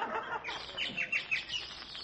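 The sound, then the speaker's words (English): A bird sings a quick run of bright, high chirps, four or five notes in rapid succession, clear, with no voices over it. “Gee, listen to the Boyd singing.”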